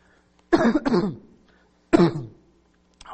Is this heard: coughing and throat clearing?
yes